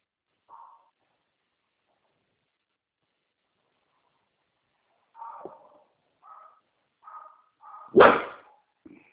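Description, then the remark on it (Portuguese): The speaker's own dog barks in short, sharp bursts: one isolated bark, a pause, then a quick series of barks building to a loud final one. “Tem meu cachorro que é meio enjoado.”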